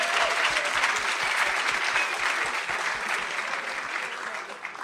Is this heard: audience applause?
yes